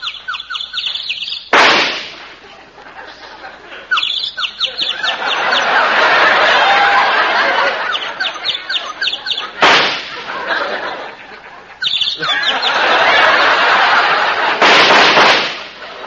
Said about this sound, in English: You see that little bird sitting up in that tree? Watch.